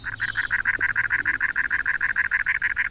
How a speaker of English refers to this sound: Our singer is the size of a red-winged blackbird, but it's a wren, a very large one, called the cactus wren.